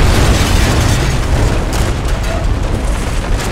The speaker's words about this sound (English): The train was a waterfall of metal and noise. The noise of a mighty crash floated up from below as the engine struck the valley floor. The train began to telescope and bend as more and more cars piled on.